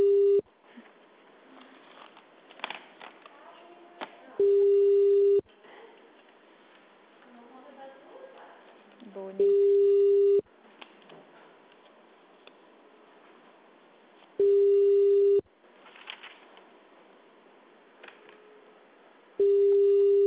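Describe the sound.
A steady mid-pitched telephone dial tone, heard after the phone was hung up, sounds in one-second bursts, repeating about every five seconds, over a low, muffled background of indistinct voices and clatter.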